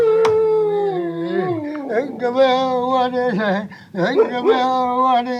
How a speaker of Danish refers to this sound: der var en hund, der sang med. Hørte du ikke i baggrunden? Der var en hund, der hylede med i rytmen.